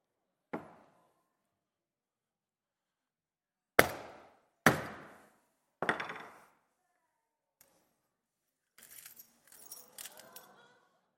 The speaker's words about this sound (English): It's a bit like this. Let me show you. So this is our mirror. I know what I need. Get my hammer.